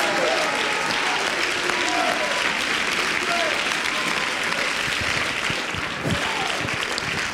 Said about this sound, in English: clap your hands mightily and give him a shout of praise in this house tonight.